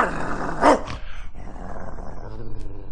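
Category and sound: animal, dog barking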